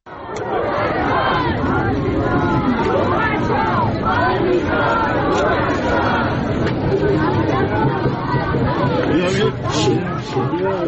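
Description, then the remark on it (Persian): A large crowd shouts the name of teenage girl Armita Geravand at her funeral, held Sunday morning under security at Behesht-e Zahra in Tehran. Many voices overlap in a loud, steady roar of calls and chatter that never lets up over the whole stretch. “تصاویر منتشره از این مراسم نشان می‌دهد با وجود حضور ماموران امنیتی، برخی حاضران نام این دختر نوجوان را فریاد زدند.”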